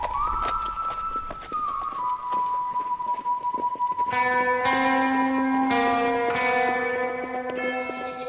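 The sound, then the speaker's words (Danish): Horse hooves clip-clop at an unhurried, steady pace throughout, clear, as riders on horseback ride calmly toward town, while a sustained tone hums beneath and bright bell-like chimes ring in over the second half. “Så det sætter de sig op på hesten. Og så lunder de stille og roligt ind mod byen.”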